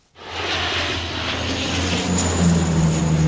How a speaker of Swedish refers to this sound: Vidsträckta skogar i brand och flygplan som dumpar vatten.